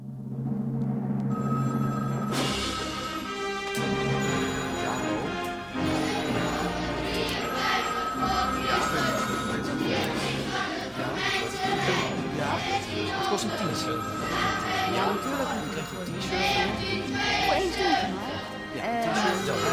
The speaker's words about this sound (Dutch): Zou iemand misschien even de telefoon aan kunnen nemen? Zou dat kunnen, ja? Alle 15 tegelijk. En ik kan niet kiezen.